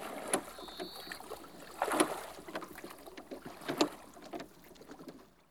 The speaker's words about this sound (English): The small boat sails away, and Luis watches it.